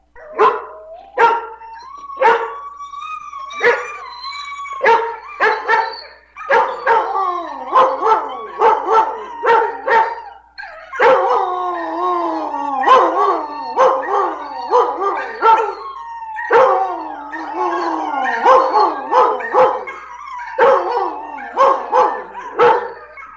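A female dog, just back from a walk, barks loud in rapid, uneven bursts, its sharp yaps mixed with drawn-out howling and whining that carry on nearly without pause.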